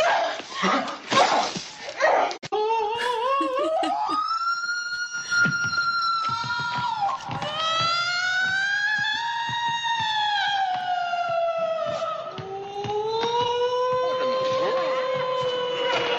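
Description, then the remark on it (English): A dog howls in long, sustained wails like a tornado siren that rise and fall in pitch, loud, after a brief burst of scuffling noise at the start. “She sounds like a siren, like a tornado siren.”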